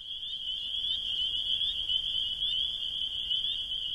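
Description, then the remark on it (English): A steady chorus of frogs trills and croaks without pause, a dense high-pitched shimmer filling the whole stretch at an even, moderate volume, with no voices. “So, and I thought nobody would even notice the frogs, but it's really been probably the most asked question I've been asked on this record, which is kind of exciting.”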